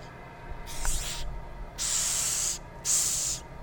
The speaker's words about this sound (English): Okay, so this is the Madagascar hissing cockroach, and they get their name because they hiss. So when they are, I don't know if this one will do it for me.